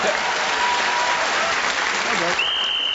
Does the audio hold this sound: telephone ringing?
no